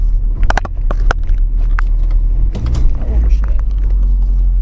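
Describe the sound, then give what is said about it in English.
A car interior in town with a steady low engine rumble, broken by a series of sharp mechanical clicks and a creaking ratchet-like sound, as if a handbrake is pulled and the car is stopped. “Helps if I stop the car.”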